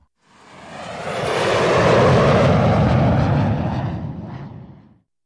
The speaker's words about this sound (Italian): È un aeroplano.